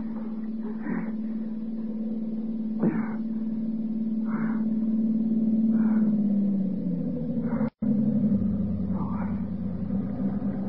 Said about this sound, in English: Look, light. The car's coming. Help's coming.